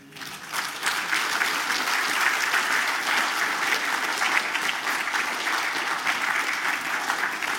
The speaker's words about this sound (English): I think it is worth an applause to commend